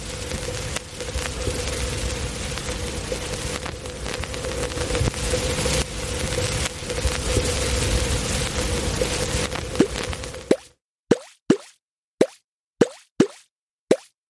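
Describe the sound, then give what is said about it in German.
An AI-generated sound: dense, steady crackling hiss runs for about ten seconds, then cuts out abruptly, followed by a series of six sharp, evenly spaced plops separated by silence. “Ein Knistern, das für den Brain Turbo oder die Brain Power steht, die Barbara erwähnt hat, und darauf folgend plötzliche Plops, die für die durch KI eingebrachten Ideen stehen.”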